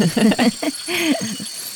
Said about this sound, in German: Ja, man hat direkt das Gefühl, so diese Feuchtigkeit und so, die da herrscht. Irgendwie kommt das total bei den Geräuschen mit. Da ist ordentlich was los, ja. Und auch die Frösche, hörst du die?